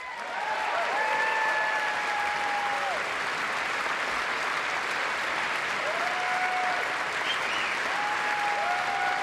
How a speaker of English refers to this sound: Okay, I just got to acknowledge, the constant, let me say a sentence, now everyone stand and cheer. Let me say another sentence, everybody stand and cheer. Just speed it up.